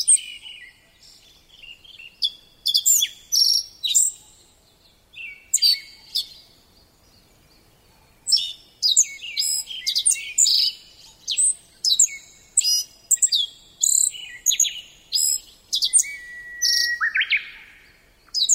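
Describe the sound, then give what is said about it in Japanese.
A Black-faced bunting, a sparrow-sized bird, sings repeated bursts of bright, high chirping phrases, clear, with short pauses between songs and no other sounds around. “江戸時代の文献に、青シトドという名前で出てくる鳥が、この青地だと考えられています。”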